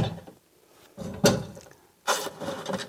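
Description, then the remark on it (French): Several heavy thuds strike a wooden door, landing at uneven intervals with a hollow, booming resonance and a brief rattle after each blow. No one speaks. “Après, un peu plus loin, on a... les impacts contre la porte.”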